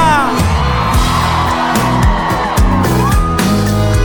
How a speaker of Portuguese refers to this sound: Eu quero ouvir o grito da mulherada solteira aqui em Goiânia.